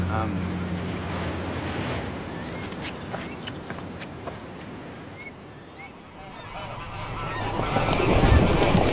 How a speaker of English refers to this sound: The geese are leaving.